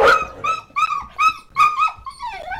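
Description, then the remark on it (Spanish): A dog yelps and barks in a quick run of about five sharp, high-pitched cries, fairly loud, with no talking underneath, as it is killed by a man. “¿Pero qué habéis hecho, marido? ¿Al perro habéis matado?”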